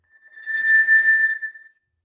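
A generated sound effect of microphone feedback: a steady, high-pitched squeal rings out alone, swelling up quickly, holding loud for about a second, then tapering away. No one speaks.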